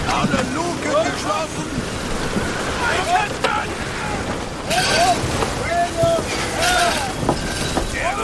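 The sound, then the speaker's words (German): A thunderstorm directly overhead at sea, heard from aboard a ship: a steady roar of wind, rain and churning water, with a heavier surge midway and indistinct voices calling over the din. “Das Gewitter ist direkt über uns. Oh, Gott, steh uns bei. Was für ein Unwetter! Können wir helfen, Kapitän?”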